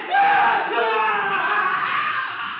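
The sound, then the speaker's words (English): An Indian man in the forest beyond a clearing lets out a sustained, wavering scream, imitating the screams of a white captive under torture, holding steady and loud for a few seconds before trailing slightly. “He is imitating the screams of a white captive under torture.”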